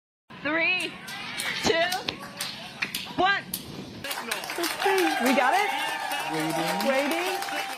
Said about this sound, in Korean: 2022년 9월 26일 우주선 다트의 지상 관제실에서 환호성이 터져나왔습니다. 미 항공우주국 나사가 발사한 다트가 우주에서 소행성과 충돌하는 데 성공했기 때문입니다.